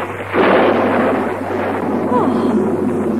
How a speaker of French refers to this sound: Soudain, un orage éclate.